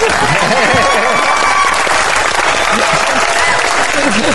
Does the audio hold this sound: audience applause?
yes